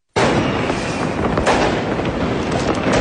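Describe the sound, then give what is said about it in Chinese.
A dense, continuous barrage of fireworks crackles and pops loudly, with rapid overlapping bursts and a sharper bang near the middle, and no voices, set off in Changchun, China, on the last day of 2024 to welcome the new year. “2024年最后一天，绚丽的烟花在长春绽放，众多市民游客在火树银花、璀璨冰雪中共同迎接新年的到来，”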